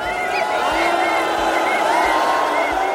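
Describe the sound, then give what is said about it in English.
A big stadium crowd of fans boos Lionel Messi, their own side's player: a loud, steady roar of many voices with long, wavering drawn-out tones that carries on without a break from start to finish. “why Lionel Messi was booed by his own fans.”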